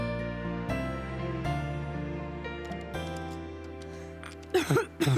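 Steady, sustained music plays, then near the end two or three harsh, loud coughs burst out close by, rough and bunched together over the music.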